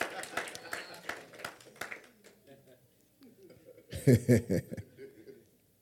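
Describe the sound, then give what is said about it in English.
A brief patter of scattered audience claps for the speaker's glasses, sharp and uneven, fades after about two seconds. A voice follows, then a loud burst of chuckling laughter. “Oh, clap for these beautiful, beautiful glasses.”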